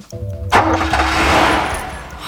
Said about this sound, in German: forderte Peter auf, sich hinter das Lenkrad zu setzen und den Zündschlüssel zu betätigen